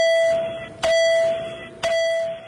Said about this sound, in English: Five electronic bells tell the representatives it's time to take their seats.